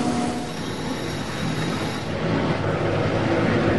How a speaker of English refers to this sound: You can hear that. Now that shot is just beating on that casting as that casting is going in there and tumbling. Up and down. It's basically like a washing machine.